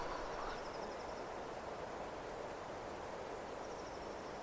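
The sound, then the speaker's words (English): A steady, dense, vibrating rush of noise from a pine forest fills the countryside air like surf in Småland, Sweden, under a blue sky. Faint bird calls trill near the beginning and again toward the end. “It's in Småland in Sweden, near my grandparents' summer house. You can hear the birds, and it's like a blue sky, but you have this sound.”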